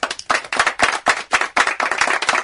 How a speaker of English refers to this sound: are we ready to, like, golf clap Andrew Wiggins?